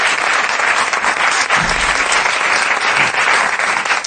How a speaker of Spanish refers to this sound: Hoy es el primer día que en el programa hay aplauso de músico, de este con el muslo, así, de...